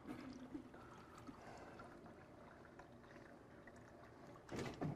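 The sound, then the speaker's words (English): Water pours steadily into a very small water cup, a continuous trickling splash that runs the whole moment, ending with a brief louder gush near the end. No one speaks. “These are like the smallest water cups ever.”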